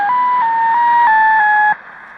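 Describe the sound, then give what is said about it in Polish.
Shortwave radio reception outdoors, carrying a clear signal of steady electronic tones that step between pitches over faint background hiss, cutting off abruptly before the end. “A teraz odbiór X06 na dworze.”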